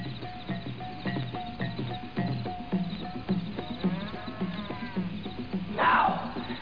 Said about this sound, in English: And the lion emerged from the bush.